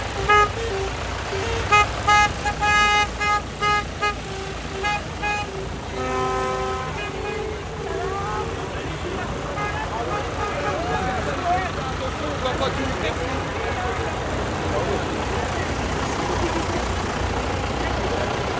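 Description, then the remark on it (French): A convoy of some 400 tractors starts up and rolls past: heavy engines rumble steadily and loudly throughout, while a series of horn toots sound repeatedly over the first several seconds. “Et les tracteurs se mettent en marche, c'est la colonne des tracteurs.”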